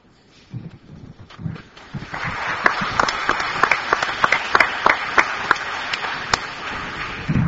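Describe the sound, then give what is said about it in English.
A conference audience breaks into applause as CBC news anchor Diana Swain is introduced as moderator of the last panel, starting with a few scattered claps that quickly swell into a dense, steady patter of many hands, with sharper individual claps standing out above the crowd. “As a television journalist, I'm just vain enough to think you're actually clapping for me.”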